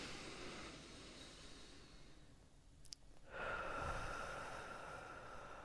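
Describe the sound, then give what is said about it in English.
A slow, steady six-second breath drawn in through the nose, a soft airy hiss that dips briefly midway, then swells into a fuller rush of air. Quiet, with no talking. “6-second inhale through the nose.”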